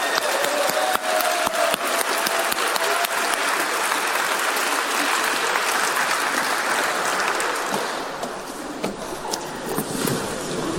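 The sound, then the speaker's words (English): An audience at a talk claps steadily for a volunteer taking part, a dense, loud patter of many hands for several seconds that thins and softens slightly toward the end. “Hey, round of applause.”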